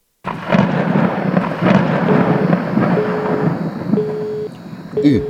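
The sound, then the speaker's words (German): A heavy, rumbling thunderstorm rolls on loudly and continuously, with deep booming thunder and a broad wash of rain-like noise, plus a few faint steady tones drifting through near the end. “Dann wird gleich in Neuss ein Gewitter aufziehen. Gewitter? Ja, ein Gewitter mit großen Blitzen.”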